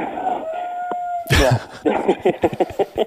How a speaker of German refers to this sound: Nein, das sind unsere Hühner und wir haben derzeit drei Hähne. Die machen aber ordentlich Ballett, muss ich sagen.